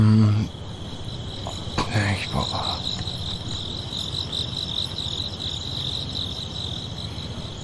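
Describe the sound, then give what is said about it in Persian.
Steady, high-pitched cricket chirping fills the scene continuously, with a brief spoken exclamation and a couple of soft knocks near the start. “قدیمی ها میگن وقتی جیرجیرک جیرجیر میکنه یعنی دمای هوا 24 درجه است.”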